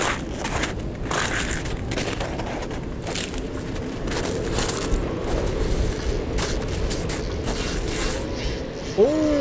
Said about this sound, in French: Je connais ce râle. C'est celui de l'éléphant de mer, un cousin du phoque bien plus impressionnant. Sur la plage de Galet, en contrebas, j'en distingue au moins une bonne cinquantaine.